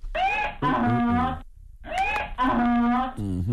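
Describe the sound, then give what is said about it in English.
A loud donkey bray sounds out twice, each hee-haw a harsh, wheezing rise and fall, with a brief gap between the two calls and a third starting at the end. “Yeah, please give him the biggest hee-haw.”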